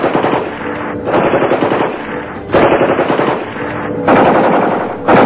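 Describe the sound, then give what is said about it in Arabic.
Sustained bursts of rapid automatic gunfire, dense and loud, rattling in several long volleys with brief dips between them and no voices, as gang reinforcements open fire on the residents of Deir Yassin. “حينها تعانت العصابتان برفيقتهم الثالثة الهجنام وعندما قدمت التعزيزات فتحت النار على السكان رجالا ونساء شيوخا وأطفال.”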